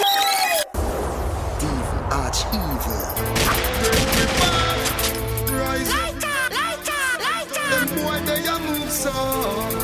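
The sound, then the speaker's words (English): A rapid fusillade of gunshot sound effects cracks repeatedly and loudly over a busy music track, the shots bunched in quick volleys while a voice chants underneath. “Gunshot bust them fucking head.”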